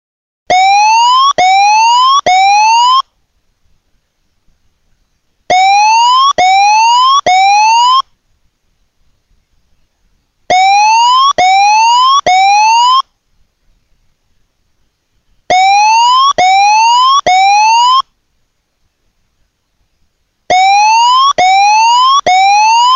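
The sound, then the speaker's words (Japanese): A loud major tsunami warning siren, warning of a tsunami on the scale of the Great East Japan Earthquake and urging evacuation to high ground, repeats in bursts of three quick upward-sweeping electronic tones, pausing a couple of seconds between each burst, with no voices. “大津波警報、東日本大震災クラスの津波が来ます。直ちに高台に避難してください。”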